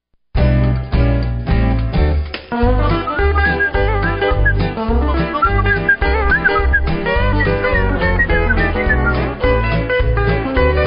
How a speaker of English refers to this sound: Whistling is a lost art.